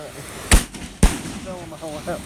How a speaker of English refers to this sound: got a great big piece of one of the fireworks. Landed in his lap. That was really loud. Yeah, that one you felt in your chest for sure.